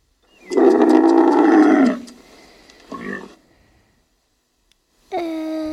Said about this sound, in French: Je sais pas. C'était le chameau.